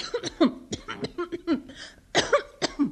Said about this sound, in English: You've got a bad cough.